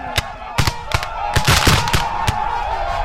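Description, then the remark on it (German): Cannons fire blank rounds at soldiers in a mock battle, a rapid, irregular series of sharp, loud booms, about seven shots over a few seconds, with a steady rumble of battle noise underneath. “And we're shooting out of our cannons, shooting blanks.”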